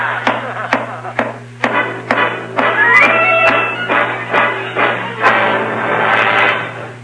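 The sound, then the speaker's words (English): A broom handle pounds on a ceiling from an attic in a long series of sharp, dull thumps at a fairly steady pace, about one every half second, over a constant low hum with no voices. “I'll go up to the attic and pound on the ceiling of his room all night with a broom handle.”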